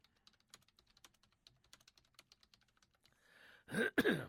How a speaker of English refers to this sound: Okay, I swear I'm going to stop typing while I'm on the show.